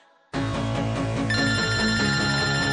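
A telephone rings loudly, starting abruptly after a brief quiet moment and continuing as a steady, rapidly repeating electronic ringtone with bright high tones, before a voicemail greeting. No one speaks.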